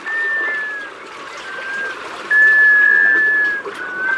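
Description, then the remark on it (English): Black scoter ducks give drawn-out, steady whistled calls, one long note after another at a mid-high pitch, over a continuous rushing wash of water noise. “Black scoters return south from nesting on freshwater tundra ponds.”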